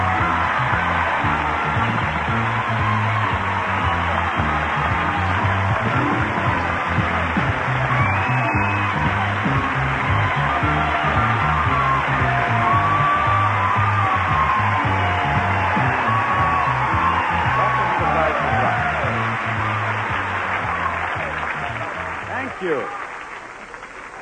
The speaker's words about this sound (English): Now, you know, they're always kind enough to applaud when I come out here, but today you sound, there's a little, you act... No, I get the feeling that some of them actually mean it, you know?